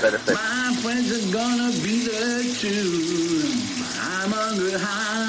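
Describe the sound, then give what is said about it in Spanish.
A shower runs steadily with a constant hiss of spraying water, while a voice sings or hums under the shower in sustained, wavering tones throughout. “Pero sí, vamos a escuchar otra vez esa voz debajo de la ducha, una vez más, por si acaso quieres cambiar.”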